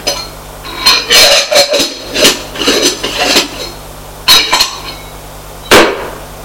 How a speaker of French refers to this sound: Il y a une trappe. Il ouvre la trappe. Se trouve une porte de coffre-fort sous la trappe. Il ouvre.